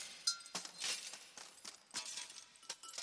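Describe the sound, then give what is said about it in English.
Glass carafe clinking: a quick, irregular run of bright, sharp clinks and taps, fairly quiet, with no voices. “A carafe.”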